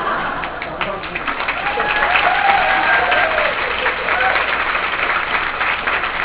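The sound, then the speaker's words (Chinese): A crowd claps steadily and densely for about six seconds, the applause swelling slightly in the middle, with faint voices and a few cheers mixed in. “所以待会儿如果你们不鼓掌哈，你们的潜能就不如那一些下面鼓掌的人。”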